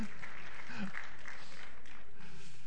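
A crowd breaks into a round of applause, steady dense clapping with a few voices mixed in, moderately loud and sustained for the whole stretch.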